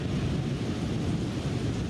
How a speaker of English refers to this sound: Thunderstorms course through the city, pulsing and pausing, blackening the sky. This is the sound of that rain, the rain of 9/10, captured on video